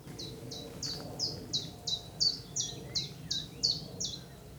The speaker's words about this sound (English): What was that bird? What's that one called? Come on, sing again.